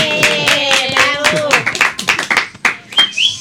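A crowd applauds a participant with dense, rapid clapping from many hands, loud, with some voices calling out underneath for a few seconds.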